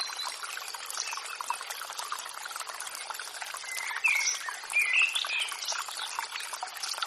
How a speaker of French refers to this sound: Une douce mélodie vient alors tinter à vos oreilles. Au détour du chemin, un petit ruisseau se présente à vous.